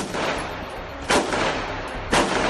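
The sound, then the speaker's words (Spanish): Handgun shots crack out over a constant rough, noisy background, with two especially loud, sharp bangs about a second apart near the end: about twelve shots in a row fired by an armed robber coming out of a bank, with return fire. No one speaks. “12 tiros uno detrás de otro.”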